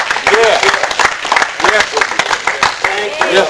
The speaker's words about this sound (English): Go ahead and give God a hand clap of yes.